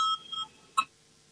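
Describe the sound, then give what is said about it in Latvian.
A short electronic signal bell calling a vote on an amendment: two soft tonal bleeps followed by a brighter, sharper ding that fades quickly, with no one speaking. “Lūdzu zvanu, balsosim par 6. Juridiskā biroja priekšlikumu, lūdzu balsosim.”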